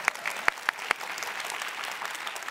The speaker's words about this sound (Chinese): 她没有走，她留下来了，给她鼓掌一下来。